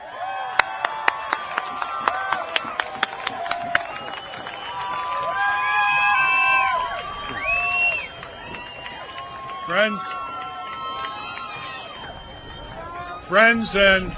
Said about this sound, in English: Brothers and sisters, this person needs no introduction. You know him. Please meet and greet and get a thunderous rounds of applause for Ralph Nader!